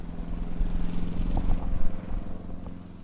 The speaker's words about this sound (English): Then he gets back to what he was doing before, what he's been doing since he was a boy, keeping the cemetery in shape. For now, that means mowing the grass.